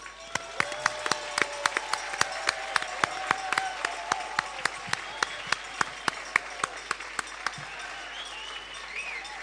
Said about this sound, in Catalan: I ara parem i ens fem un aplaudiment tots plegats i nosaltres mateixos.